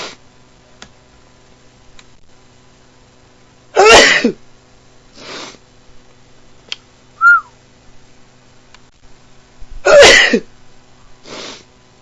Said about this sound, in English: Sometimes it makes me sneeze, sometimes he doesn't. Tonight he is.